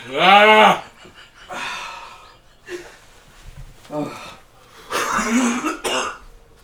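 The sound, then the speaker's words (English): A strained vocal groan gives way to several harsh, irregular coughs and raspy throat-clearing bursts from a person who has just eaten very hot sauce, loud and spaced unevenly with short breathy pauses between them. “Coughing is worse.”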